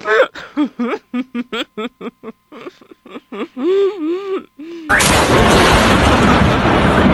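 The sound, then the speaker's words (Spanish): A voice lets out short, choppy bursts of laughter, then a sudden loud thunder clap crashes in and keeps roaring as a dense, sustained rumble until the end. “¿Ustedes escucharon el rempálago?”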